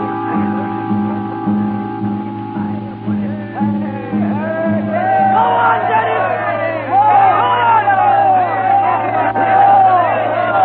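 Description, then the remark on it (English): A large crowd shouts and cheers outdoors at a meeting in a square where a man is speaking, many voices overlapping in a dense, rising roar that grows louder and more excited toward the end, with a steady low hum beneath. “A meeting in the square. He's speaking to the crowd.”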